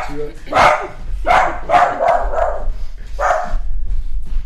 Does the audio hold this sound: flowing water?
no